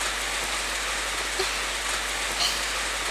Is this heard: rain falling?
yes